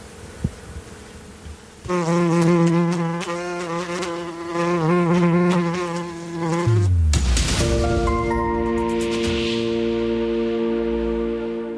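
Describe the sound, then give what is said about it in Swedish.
A bumblebee buzzes loudly, its harmonic drone wavering in pitch for several seconds, then shifting abruptly to a steadier, higher hum as it moves. No one speaks. “Det är samma humla.”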